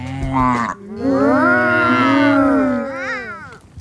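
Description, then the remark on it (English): A cow on a farm moos oddly: a short low call, then a long, drawn-out moo that wavers and bends in pitch, ending with a brief rising tail, loud. “Is it just me, or do these olden day cows sound a bit strange?”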